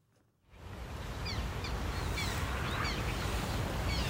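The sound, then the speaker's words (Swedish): Several high, whining calls of black terns repeat irregularly at Kristianstad Vattenrike, Sweden, heard over a steady, rushing background noise like wind or water. “Om man hör det här gnälliga lätet, då är det dags att kolla uppåt.”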